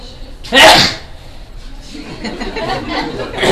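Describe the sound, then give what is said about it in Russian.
A single sharp, loud sneeze bursts out near the start, followed by quieter murmuring voices and low chatter for the rest of the moment. “Видно, никто не хотел чихать.”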